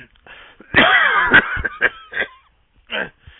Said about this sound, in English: You seem to have a bit of a cough there. Are you okay?